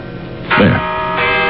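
signal or alarm, church bells ringing

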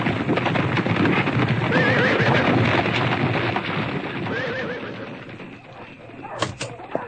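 animal, horse galloping and neighing

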